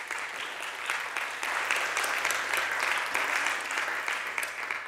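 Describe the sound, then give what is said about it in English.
An audience applauds steadily for about five seconds for a volunteer at a morning event, a dense wash of many hands clapping at an even, moderate loudness with no voices over it. “Round of applause for Seth.”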